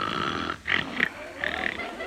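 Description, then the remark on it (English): Rasping snores with a grunting, snorting quality from a man who has fallen asleep, a couple of drawn-out breaths in quick succession over a low background hum, no talking. “He's fallen asleep.”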